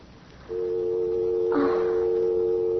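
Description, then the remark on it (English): A steady, continuous telephone dial tone hums after a moment of near silence as a call is hung up, with a brief clattering click partway through; no one speaks. “you'll phone Corey the second I hang up, which is right now”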